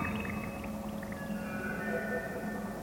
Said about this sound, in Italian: Il materiale sparso mi fa capire che la volta è franata. Fra rocce e travi spezzati scorre dell'acqua.